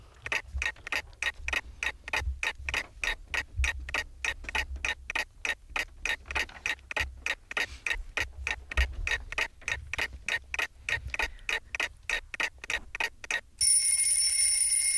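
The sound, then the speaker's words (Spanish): A quiz show timer clock ticks with a steady, rapid mechanical ticking, repeating evenly for about thirteen seconds, bright and clicky, then cuts off into a brief high electronic tone or buzz at the end. “Espera, que suene el reloj.”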